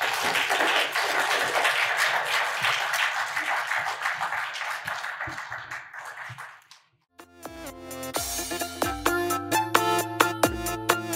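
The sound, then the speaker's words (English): An audience at the All Souls Forum claps steadily for several seconds, the applause thinning and fading to near silence before bright instrumental music begins. “It's time for us to head upstairs, but let's have a warm round of applause”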